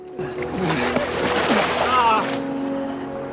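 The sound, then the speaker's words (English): Someone wades through water toward a boat, a couple of seconds of heavy sloshing and splashing, with indistinct voices in the background before the splashing fades out. “Tom wades through the water to the boat.”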